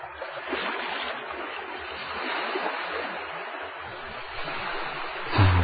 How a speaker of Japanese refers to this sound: 朝なぎの浜道。日が上がり始め、寒さも和らぎ、左手からは押し寄せては引き返す波音が絶え間なく聞こえる。